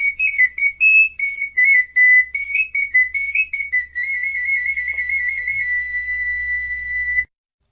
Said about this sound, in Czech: Je vyrobená ze stejného materiálu jako ty velikánské fujary a ty hadráci, když takhle chodili, tak hráli na ty svoje píšťalky.